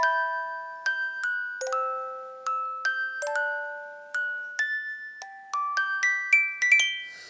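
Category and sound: household object, alarm clock ringing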